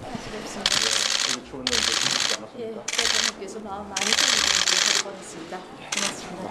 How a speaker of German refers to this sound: Von diesem diplomatischen Treffen, also wo die Diktatorenschwester den südkoreanischen Präsidenten trifft, auch davon gibt es ein Video, leider mit sehr schlechter Tonqualität. Man hört vor allem die Kameras klicken.